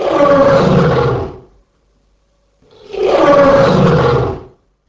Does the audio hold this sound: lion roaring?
yes